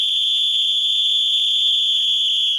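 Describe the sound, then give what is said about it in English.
A whistle blows one long, unbroken blast, a piercing high steady tone holding loud for the full couple of seconds, with only a faint low rumble underneath and no talking. “as you just heard, there's the whistle.”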